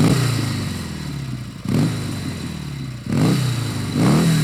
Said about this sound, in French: Lo pones al pedal aquí. On a préparé la moto et hop, on a démarré. Sans se retourner.